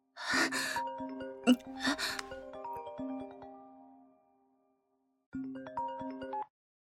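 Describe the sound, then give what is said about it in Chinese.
A mobile phone rings with an incoming call from a husband, playing a bright melodic ringtone, a burst of rising notes that fades out, then after a short pause the jingle starts again. A sharp breath or gasp cuts in early. “是我老公的电话，没力气了，身体只能趴在沙发上，这手机怎么够不到？”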